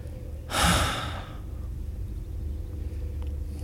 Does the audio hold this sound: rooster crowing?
no